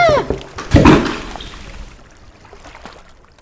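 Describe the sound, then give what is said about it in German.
A burst of splashing water in a beaver pond, as if someone jumps or plunges in, with bathers splashing each other, followed by softer sloshing and dripping that gradually fades. A faint voice may be present briefly at the start. “Dann baden sie im Biberteich und spritzen sich gegenseitig nass.”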